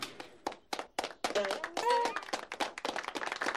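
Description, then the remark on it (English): A small group claps in loose, uneven bursts, sharp slaps overlapping at moderate volume, while a few voices call out briefly in the middle of the clapping. “How are we clapping?”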